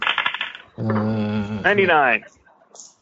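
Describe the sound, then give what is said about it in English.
Dice rattle and clatter briefly across a hard surface as everyone makes a spot hidden roll in a tabletop game, followed by a long, drawn-out vocal groan that rises in pitch before fading into faint background noise. “Can I get another spot hidden roll from everyone?”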